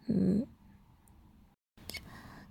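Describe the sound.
A person gives a single short, loud yelp imitating a dog's bark, then quiet background hiss with a brief pause and some faint rustling.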